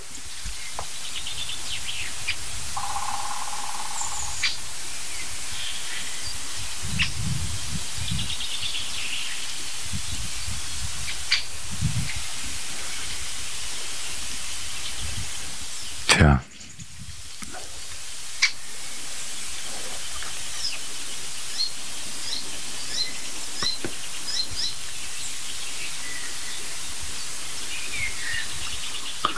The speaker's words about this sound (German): Ab und zu das Rätschen des Eichelheers.